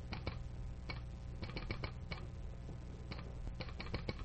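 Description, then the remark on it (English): Telegraph sounder clicking out a message from the Rockton operator verifying that number 7 westbound is past Milltown: sharp dry clicks in irregular bursts and pauses, like coded taps, steady in level over a low background hum with no voices. “What clicking say, Kim Sully? It's the Rockton operator verifying that number 7 westbound is past Milltown.”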